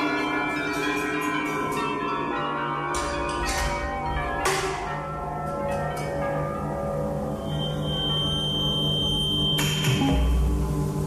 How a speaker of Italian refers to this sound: Fantasma di una remota campana, il silenzio, con piccoli passi di gatto, percorre Milano.